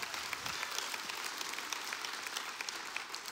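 A crowd applauds steadily, dense overlapping claps forming a continuous, moderately loud wash of sound with no voices standing out.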